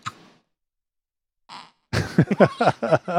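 Two brief, soft puffs separated by silence, followed by a louder, longer sputtering fart sound with rapid wobbling pulses, with no talking.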